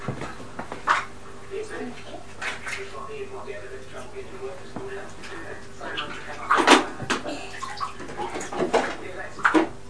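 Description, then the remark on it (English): Bath water sloshes and splashes as a child is bathed and has their hair washed, with a few sharper splashes breaking through a steady watery wash, while voices talk intermittently over it. “Water. Right, lean back and watch the rest of your hair because I'm going to wash it.”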